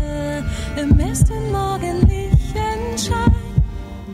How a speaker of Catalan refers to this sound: Sents el batec ancestral? Xxxt! Escolta.